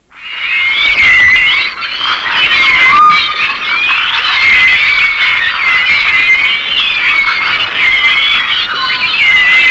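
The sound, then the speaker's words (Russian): Vocalizations of a pilot whale, a whale weighing about 3 tonnes: a dense chorus of high, chirping whistles that rise, fall and overlap continuously for the whole stretch, with a faint rushing hiss underneath and no voices. “Другой кит, гринда, несмотря на свой 3-тонный вес, считается канарейкой моря.”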